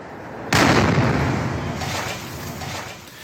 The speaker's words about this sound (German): Und ein Statiker prüft am Nachmittag, ob das Haus eventuell sogar einsturzgefährdet ist, nachdem hier in der Silvesternacht wohl eine Kugelbombe explodiert ist.